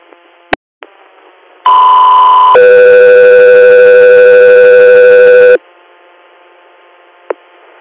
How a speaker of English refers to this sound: Echo 3 here, stand by for tone.